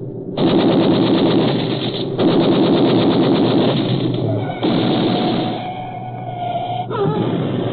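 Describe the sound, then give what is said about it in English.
Two long bursts of rapid, loud automatic gunfire rattle from a moving car as it slows to get close, over its steady engine drone, followed by the engine roaring on alone with a faint wavering whine. “Shoot, Hans, shoot!”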